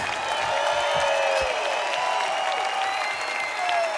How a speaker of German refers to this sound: Bitte Riesenapplaus noch mal unsere Gäste.